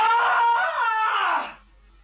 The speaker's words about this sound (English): You have to scream. You haven't given us the scream. Okay. I'll give you a real blood curdler. Ah!